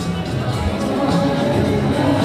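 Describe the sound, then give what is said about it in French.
A dense outdoor festival crowd, the Danse sur le Doubs, murmurs steadily as people browse and drink around some sixty stalls, many overlapping voices blending into a continuous babble at moderate loudness, with no single voice standing out. “La population chine et trinque autour d'une soixantaine de stands.”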